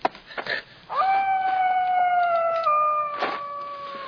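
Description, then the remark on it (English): A single long, eerie howl rises sharply, then holds a high, shrill wavering tone for about three seconds before slowly sagging, like a woman's scream. Brief rustling comes just before it. “Maybe it's coyotes. Sounds like a woman screaming.”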